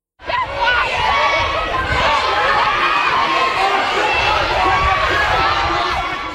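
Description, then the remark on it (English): A large, agitated crowd storming a hospital in Liverpool, England, clamors and shouts, a loud, dense wall of overlapping raised voices that surges in quickly and holds steady throughout, with no single voice standing out. “Those are the sounds of the crowd storming the hospital in Liverpool, England,”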